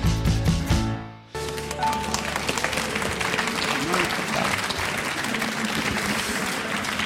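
A song ends abruptly, followed by sustained applause from an audience, a steady dense patter of clapping that continues without letting up.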